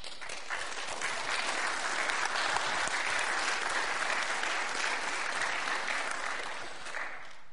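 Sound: audience clapping hands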